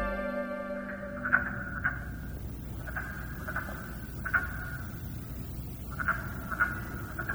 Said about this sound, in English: What you're listening to is the raspy call of a wood frog looking for a mate. The wood frog is just one of the thousands of species that inhabit Alberta's ecosystems.